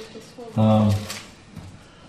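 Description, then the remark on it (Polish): Paper rustling as the stiff pages of a new Bible are handled and turned, a brief crisp crinkle with a short voiced sound. “Już jest nowa Biblia i trudno się otwiera kartki, żeby się nie sklejały.”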